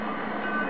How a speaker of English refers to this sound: Hot diggity dog, they're switching old number 9 out there at the yard tonight. Listen to that. Oh, boy. Oh. This is the sound of a roundhouse at midnight.